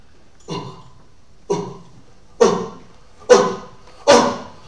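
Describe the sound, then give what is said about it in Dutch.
A single voice imitates cheering in place of applause, the way Indigenous people (Indianen) show enthusiasm with their voices instead of clapping: five short, rough vocal bursts at a steady rhythm, each a bit louder than the last, with silence between them. “Een soort applaus, maar met je stem.”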